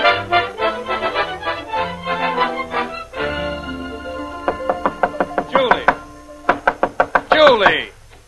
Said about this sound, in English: Why, Press, banging at a lady's bedroom door.